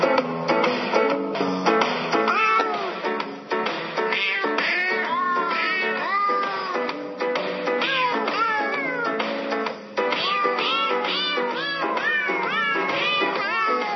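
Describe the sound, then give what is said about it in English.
Cat meows pitched and edited into a continuous Christmas song melody, one after another in a steady rhythm, loud over a backing arrangement, with no talking. “Higgins and Fang singing …”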